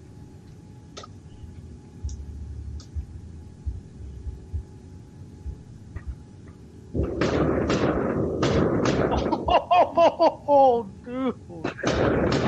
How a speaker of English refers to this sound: Man, they got some serious mortars. And if you listen, you can hear it echo. Yeah, they got some serious mortars going on there.